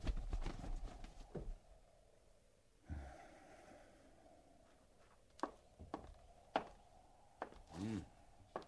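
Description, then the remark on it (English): Horses shuffle and clip-clop with a few sharp, spaced hoof knocks, mixed with snorting and heavy breathing against a quiet outdoor background. “hobble them horses and get up there.”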